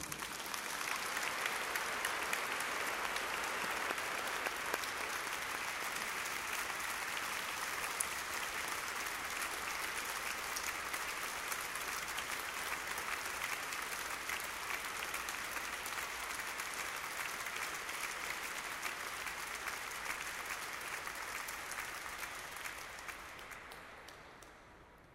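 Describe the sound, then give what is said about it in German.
Sustained applause from a large audience fills a reverberant cathedral during a church service, thanking someone who led the service and will soon retire, a dense steady wash of clapping for about twenty seconds before fading out at the end. “Aber schon mal für diesen Gottesdienst Ihnen und Ihnen allen einen ganz herzlichen Dank und einen kräftigen Applaus.”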